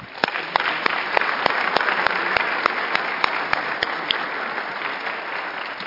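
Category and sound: crowd, loud round of applause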